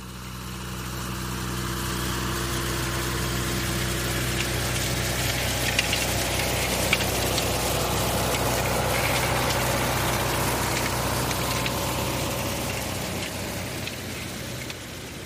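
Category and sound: vehicle, tractor engine running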